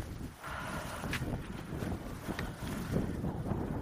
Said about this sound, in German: Es windet übrigens auch, falls das noch keiner mitgekriegt hat. Schnee und Wind und es ist der 22. November.